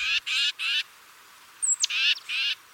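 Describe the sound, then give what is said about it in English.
A titmouse gives harsh, raspy scolding calls: three quick buzzy notes, a brief pause, a thin rising whistle, then two more rasps. Close, clear, no other voices. “Titmice are loud and vocal birds, which could make them particularly easy to follow.”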